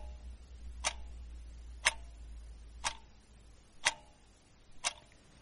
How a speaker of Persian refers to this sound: چشماتون رو ببندین و صدای تیک تاک ساعت رو گوش کنین.